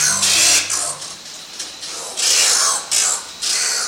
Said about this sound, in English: The oil bird of South America, whose freakish snarls you're hearing, lives perpetually in the dark. It spends its days in the utter lightlessness of a cave, and its nights flying out in search of food.